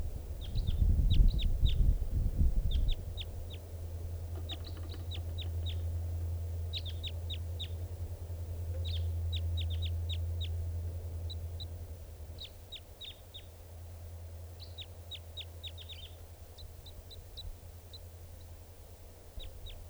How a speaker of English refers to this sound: Here's that bird again. It sounds like it's in song.